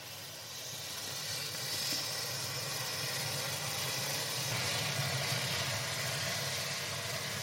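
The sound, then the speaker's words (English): A steady, loud roaring hiss of fierce flame as gingerbread men, with liquid oxygen poured over them, burn in a huge orange flame, holding a broad rushing whoosh for several seconds with no one speaking. “So we had a huge orange flame right in the middle of that.”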